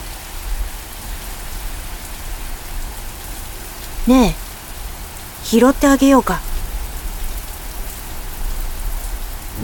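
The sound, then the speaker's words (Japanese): Steady, heavy rainfall hisses evenly through the whole clip, a dense unbroken wash of patter. Midway, a voice speaks a short line over the downpour, which never lets up. “雨は降り続けました。”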